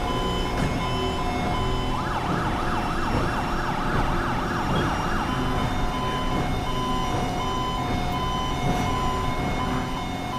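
An electronic Federal Signal SS2000 (Smart Siren 2000) police siren wails in rapid rising and falling sweeps over a dense, steady roar of engine and traffic noise, loud, with no talking.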